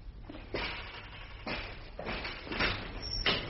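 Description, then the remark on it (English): The movable wall of bars of a crush cage is pushed and slides along in several grinding, rattling pushes, each a rough metallic scrape of about a second, with no voices. “The whole wall moves. It's called a crush cage.”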